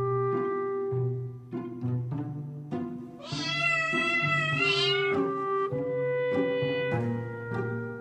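tomcat meowing

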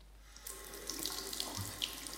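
water running

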